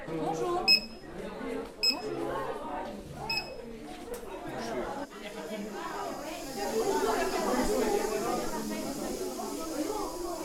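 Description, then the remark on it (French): A canteen card reader gives three short, high-pitched electronic beeps spaced a second or so apart as the first pupils scan their canteen cards, over steady crowd chatter that grows louder toward the end. “Et pendant que l'équipe fait ses derniers préparatifs, les premiers élèves sont déjà en train de biper leur carte de self, attendant patiemment ensuite le top départ du chef.”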